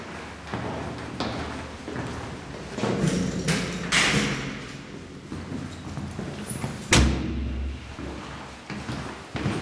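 Footsteps climb stone stairs in a reverberant stairwell after passing through a door, a series of uneven thumps and scuffs, with a heavier door thud about two-thirds through and a low rumble afterward.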